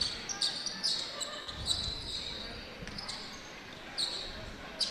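Sneakers squeak sharply and repeatedly on a hardwood court during a basketball game between North Posey and the Vikings, high-pitched chirps scattered irregularly over a steady crowd murmur, with a couple of louder squeals standing out.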